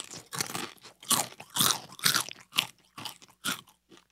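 Crunching on chips, with a series of sharp, crackly bites and chews coming in irregular bursts about every half second, loud and crisp with no talking.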